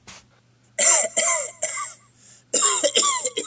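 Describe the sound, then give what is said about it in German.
A burst of harsh coughing: a run of rough coughs, a short pause, then another rattling bout, loud with a faint hum underneath. “Das Mikrofon hustet.”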